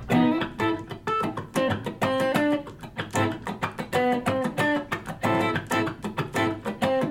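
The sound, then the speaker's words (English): Rhythmic funk guitar chords strummed with a light touch in quick, choppy stabs, with a slightly gritty, lightly distorted edge breaking up the tone. Steady groove, no voices. “Because part of that sound is when he's playing those chords, they just break up a little bit. It's subtle.”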